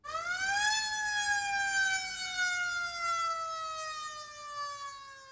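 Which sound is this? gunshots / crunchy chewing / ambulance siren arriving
ambulance siren arriving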